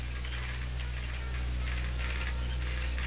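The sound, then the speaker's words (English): Irregular bursts of rapid mechanical clicking, the dots and dashes of Morse code sent by a telegraph operator in an office, grouped into short and longer runs over a steady low electrical hum. No one speaks. “Then, through the open window, she heard the dots and dashes of the Morse code.”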